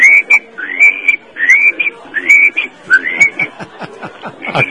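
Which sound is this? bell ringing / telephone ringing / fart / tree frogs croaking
tree frogs croaking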